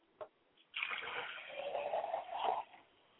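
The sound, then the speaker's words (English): Water is poured onto the ground as a libation in a steady, splashing stream for about two seconds after a brief tap, the splatter rising slightly before cutting off abruptly; no voices are heard. “I pour water to ground, so that as it falls upon the fertile ground, it will take root”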